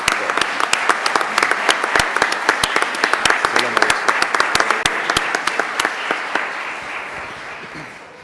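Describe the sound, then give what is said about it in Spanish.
An audience applauds the mayor steadily, many hands clapping in a dense, crackling wash with sharper individual claps poking through, holding strong for several seconds before tapering off at the end. “Aplaudimos al alcalde, no te importa que aplaudamos.”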